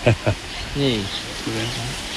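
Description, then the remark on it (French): Heavy tropical rain with huge, almost hail-like drops falls on thatched roofs, hissing throughout in a dense, even wash of falling water, while voices make short exclamations and murmur over it. “Oh, c'est des gouttes énormes, c'est presque de la grêle qui tombe.”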